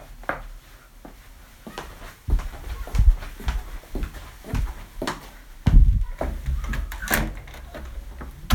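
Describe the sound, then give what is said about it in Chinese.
A mother opens her son's door without knocking, with a handle click and some soft knocks and thumps, followed by a few scattered clunks and shuffling steps, moderately quiet, with no one speaking. “我怎么不敲门？妈妈过来看看儿子，要敲什么门呀？”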